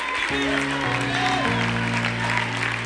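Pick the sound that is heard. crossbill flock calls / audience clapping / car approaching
audience clapping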